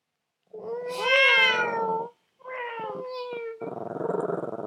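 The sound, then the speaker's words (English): A person's voice mimics a cat during a game of taking turns imitating animal sounds, giving two long, wavering meows, then finishes with a rough, rattling purr-like growl. “The next one is a cat.”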